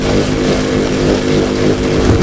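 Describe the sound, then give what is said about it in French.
A reconstructed noise of Leonardo da Vinci's flying machine: a loud, continuous mechanical drone with a steady low hum and rough, buzzing texture, like a motor running without pause, with no voices. “Si elle avait volé, la machine à Léo, ben c'est sans doute le son qu'elle aurait fait.”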